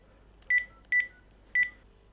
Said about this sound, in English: Now, let me just definitely prove to you the fact that I can also answer my Windows phone if I ring it as well. So I'm just going to get my landline here and dial my Windows phone number.